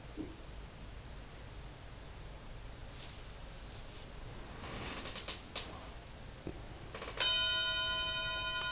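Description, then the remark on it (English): After several seconds of quiet rustling and shuffling, a single bell is accidentally struck with a bright, sudden hit, then rings on with a steady, sustained tone. No one speaks. “Accidental bell.”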